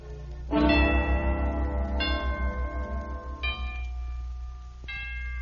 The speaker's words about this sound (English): But it doesn't really hurt them. Even the little bells are struck like this. And the chimes.